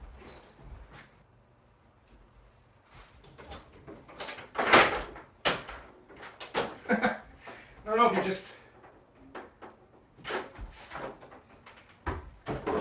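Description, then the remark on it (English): A door opens with a loud clattering rattle of belts and other things hanging on a hook on the door, like loose metal buckles knocking against wood, in a couple of sharp bursts, as a man looks for a quarter-inch guitar jack; he speaks briefly around it. “when I opened the door to go look in the other room”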